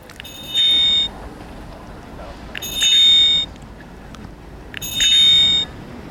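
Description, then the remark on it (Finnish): A small electronic bicycle bell, attached to the handlebar with a silicone strap, chimes three times, each a bright, high, ringing burst of about half a second, spaced a couple of seconds apart over a low, steady background rumble. “Tosiaan on tämä pilli, kilikili ja sitten on vielä tämmöinen töötö.”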